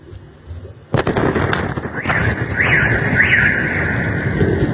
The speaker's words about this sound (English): Missile flies over. You see the explosion, and then seconds later, the sound comes back. Boom. See the explosion? And then now, here comes the sound.